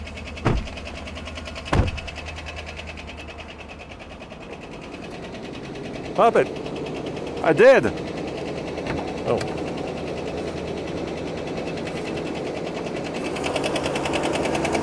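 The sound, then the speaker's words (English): A running engine heard up close with a rapid, steady mechanical ticking like a knocking rod, joined by a few sharp clunks; people talk briefly over it. “Well, that is definitely a tick. That's a lot of ticking.”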